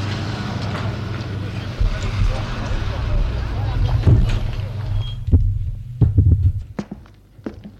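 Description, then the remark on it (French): A car engine rumbles low amid city traffic at place de l'Étoile in Paris, then settles as a few sharp clunks and clicks, like doors, ring out near the end as the driver gets out of the car. “Sa voiture, place de l'Étoile, sortie de voiture et entre dans un bel immeuble 19e.”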